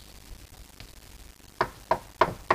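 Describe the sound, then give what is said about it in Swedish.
Four firm knocks on a door, evenly spaced, following a couple of seconds of quiet background noise. “Jag tror att det knackar på dörren.”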